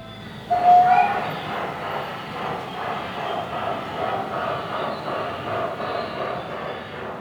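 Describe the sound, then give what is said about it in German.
A large gauge 2 (scale 1:22.5) model train runs steadily along its track in a railway museum in the Black Forest, a continuous rumbling and clattering that starts abruptly with a brief whistle-like tone, then holds at an even, moderately loud level. “Generell sehen Sie bei uns Modellbahnen in Baugröße 2.”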